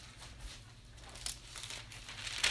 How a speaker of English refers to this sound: If you read Ezekiel, go to Ezekiel chapter 45. I haven't heard no pages turn yet, so we might as well turn a few. Ezekiel chapter 45.